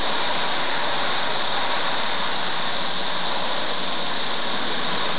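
A dense, unbroken chorus of cicadas drones outdoors, a loud high-pitched hiss-like buzz that holds steady without pauses throughout, with no voices present.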